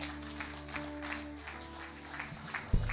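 An audience applauds with a steady wash of many hands clapping, while a sustained keyboard tone hums underneath. A low thump sounds near the end.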